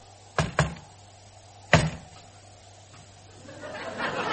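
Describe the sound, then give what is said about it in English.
Knocks given as answers to questions put to a ghost, one knock for yes and two for no: two quick, sharp knocks, a pause of about a second, then one more solid knock, followed by a soft rising murmur of background noise toward the end. “Knock one for yes and twice for no.”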